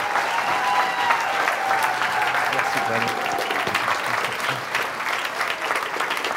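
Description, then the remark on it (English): Sustained applause from a standing church audience at Christian Family Church San Antonio welcoming an evangelist, a dense steady wash of many hands clapping at an even loudness for several seconds, with faint voices and whoops mixed in beneath it. “Let's give a round of applause to our friend, our brother, evangelist”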